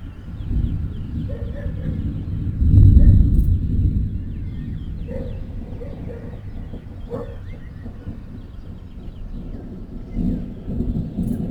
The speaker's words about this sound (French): Je reste en bordure de la route et l'orage arrive. Le tonnerre claque quelquefois.